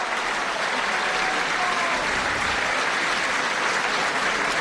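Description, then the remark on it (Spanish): An audience applauds the mayor's speech at a Día del Bierzo celebration: steady, dense applause fills the whole stretch, many hands clapping at a constant loud level without pause, with no voices standing out above it. “Se aplauden las palabras del señor alcalde”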